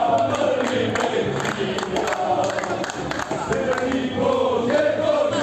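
A dense crowd of about 1600 Macedonia football fans chants and shouts together in Palermo, at the Barbera stadium, for the Italy versus Macedonia match: a loud, continuous roar of many voices with rising and falling sung phrases and scattered claps.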